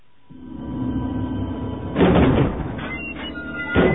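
Heavy double gate doors are dragged open as far apart as possible with a long, low grinding rumble, swelling into a louder scraping surge midway and ending in a brief heavy clunk. No voices.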